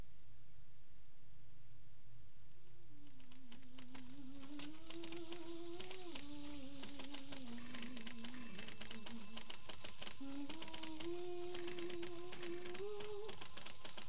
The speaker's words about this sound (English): Phone! What? Telephone! I can hear it. Are you going to answer it?